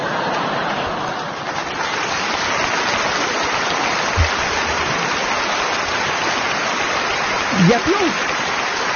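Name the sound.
loud audience applause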